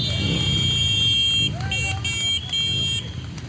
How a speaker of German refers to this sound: Unmittelbar vor Beginn der Sitzung am Stahlwerk in Duisburg sind rund 50 Biker vorgefahren, mit ihren Maschinen nach einem Motorradkorso durch die Stadt.